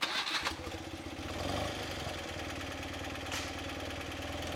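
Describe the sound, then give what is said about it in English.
A BMW motorcycle engine cranks and catches, then settles into a steady, low rumbling idle, at the 43rd Top of the Rockies Rally in Paonia in the North Fork Valley, with no one talking. “Don't be surprised if you see a lot of BMW motorcycles in the North Fork Valley over the next 3 days.”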